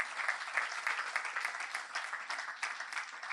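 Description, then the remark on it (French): A crowd applauds a shared testimony of a miracle, many hands clapping in a dense, continuous patter that holds at an even level throughout, with no voices standing out. “Oui, on peut applaudir.”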